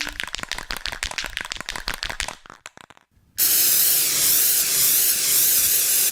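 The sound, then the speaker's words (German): A giant snake, Cobra Khan, sprays its corrosive venom in a burst, a loud, steady hiss lasting about three seconds, preceded by a quick run of rattling clicks and a brief silence. “Achtung, Jeff, er sprüht.”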